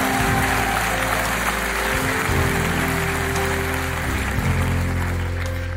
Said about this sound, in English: Let's clap our hands and thank God for that.